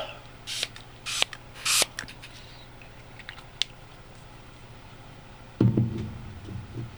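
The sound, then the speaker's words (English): Three quick hissing spritzes from a small pump bottle of Nutribiotic throat spray in fairly even succession, with faint clicks and handling noise afterward and a low thump near the end. “I salvage my throat here with a little Nutribiotic throat spray.”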